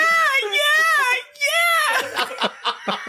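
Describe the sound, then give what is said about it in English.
A voice imitates a peacock call with two loud, high, wailing cries that rise and fall, the second shorter, followed by a burst of laughter and chatter. “You're gonna Google peacock noises for him.”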